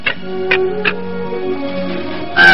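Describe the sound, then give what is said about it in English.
A crow caws in a few short, harsh bursts, then lets out a louder, raspier call at the end, over a soft sustained musical backing. “You see? I can't even scare a crow.”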